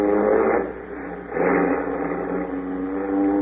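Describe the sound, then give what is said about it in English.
A jeep engine revs up loudly, surging twice before settling into a steady, rumbling drone as the jeep pulls away in the African jungle, with no voices. “Hey, jump in this jeep. I can't get away from this place fast enough.”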